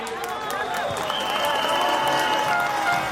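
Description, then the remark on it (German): A crowd of demonstrators in Sofia, Bulgaria, on day 76 of protests against Prime Minister Bojko Borissow's government, cheers loudly and steadily to welcome EU MEP Daniel Freund, with applause and high whistles cutting through a dense roar of many voices that holds for the whole three seconds. “Empfangen wird er mit großem Jubel.”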